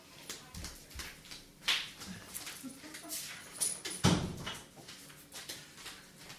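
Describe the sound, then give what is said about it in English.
A son's door in a house is shut with a solid thud partway through, amid household rustling, shuffling and small knocks, all fairly quiet apart from the one firm closing impact. “we're moms, and we have kids who make a lot of noise in the house, so I had to run and close my son's door.”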